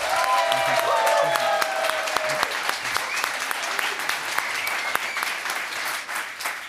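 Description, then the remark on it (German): Steady audience applause voting for Mahmoud Abdul-Rauf in a prize contest, with dense, crackling claps sustained throughout, briefly overlaid at the start by a faint tonal whistle or cheer that fades after a couple of seconds. “Einmal bitte den Applaus für Mahmoud Abdul-Rauf.”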